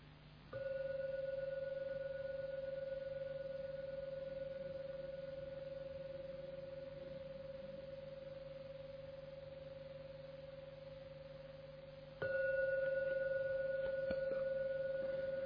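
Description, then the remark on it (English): A meditation gong, rung three times to signal the end of a meditation, rings out with a long, steady humming tone that slowly fades, then is struck again near the end, its bright ringing swelling back up. No voices. “And now ring the gong 3 times.”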